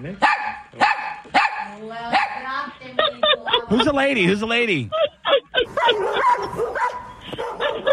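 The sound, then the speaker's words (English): Dogs bark loudly in a rapid string of sharp yaps, with a whiny, wavering yelp partway through, while a person talks over the commotion. “Dogs, if you can hear me, bite her.”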